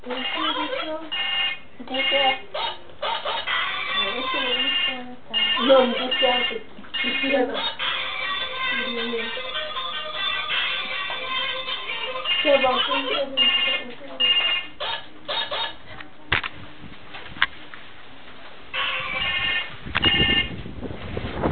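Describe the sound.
A phone ringtone rings on and off for about twenty seconds, its tinny, repeating melody fairly loud, with muffled voices talking underneath.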